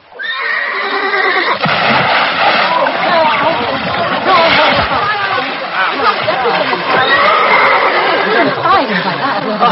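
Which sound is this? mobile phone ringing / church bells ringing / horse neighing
horse neighing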